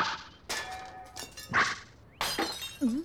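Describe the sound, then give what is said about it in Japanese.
Glass shatters in several sharp, bright bursts with tinkling fragments scattering after each crash, loud and alone with no talking. “ガラスの割れた音みたいだな。”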